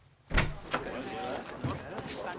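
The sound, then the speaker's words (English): A door is opened and then closed as a man walks out, with a solid thud, some rattling and a second knock of the latch shortly after. The sound is moderately loud and heard without speech. “And he walked out of the door.”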